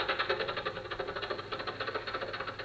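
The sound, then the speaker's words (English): An old car engine, driven on by the chauffeur Rochester, chugs steadily, with a rapid, even rattling pulse and a gritty mid-range roar that holds at a constant level throughout. No one speaks. “This car's good enough. I can keep it for quite a while yet.”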